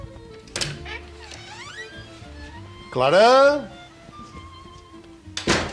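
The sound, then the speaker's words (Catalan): An unvarnished wooden door on a town square thumps and creaks open with a rising squeak, a voice calls out once, then the door shuts again with a solid thunk near the end. “deixa'm entrar a la porta i a veure si trobo la Clara”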